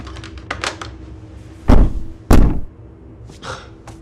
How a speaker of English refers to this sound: Next door, the door opens and a woman peers inside.